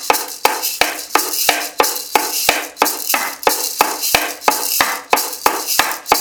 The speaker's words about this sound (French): donc attention sous vos yeux et pour vos oreilles, rien qu'à vous, donc les rythmes en 5 temps dont je parlais tout à l'heure.